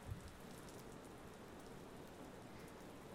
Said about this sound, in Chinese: 那么一边听着雨声一边入睡吧。因为是小雨，所以当成催眠曲也是可以的。